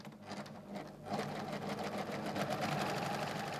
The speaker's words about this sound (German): Die Nähmaschine rattert, sie arbeitet an ihrem Prototyp.